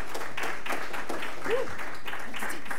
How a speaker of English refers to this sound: Thank you. Big, big, big, big, big round of applause. Please, please, please.